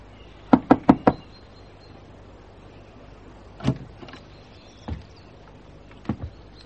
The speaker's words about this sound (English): All right, but you knock on the door.